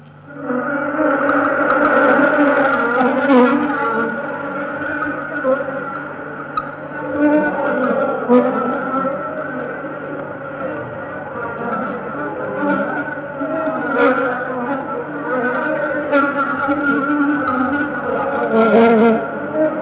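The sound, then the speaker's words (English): A dense, steady buzzing drone of many honeybee wings, recorded just outside the flight board of an ordinary hive, higher-pitched worker wing beats forming a continuous hum with occasional deeper notes from drones, fairly loud and unbroken throughout. “You will hear the higher pitched workers' wing beat with an occasional deeper note of a drone.”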